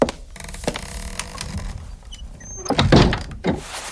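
A door slides and bumps shut behind someone who has just come in, with a scraping glide followed by a couple of solid thuds. No one speaks.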